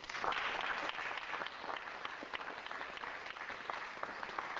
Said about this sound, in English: let's have a big warm applause